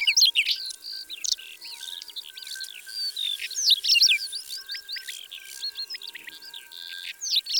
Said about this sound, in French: Un tarier des prés vient de se percher sur un piquet. Son chant est tout simple, en petites strophes aigrelettes, un peu grinçantes.